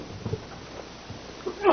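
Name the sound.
sneeze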